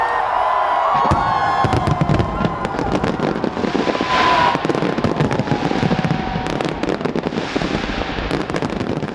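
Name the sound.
fireworks exploding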